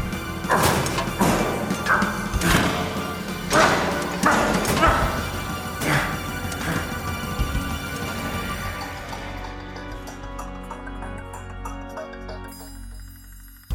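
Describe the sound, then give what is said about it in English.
Loud, repeated heavy bangs strike a ship's windshield, about ten hits in an uneven rhythm over several seconds before fading into a sustained ringing, droning background. “It's banging against the windshield.”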